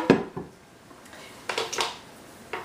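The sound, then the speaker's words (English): A hard plastic blender jug clunks and rattles as it's grabbed, handled, and set back down on a counter while a paste is being made, with a few separate knocks spread out and no one speaking. “It's just easier for everything to blend into the blender here. I'm gonna grab my jug here.”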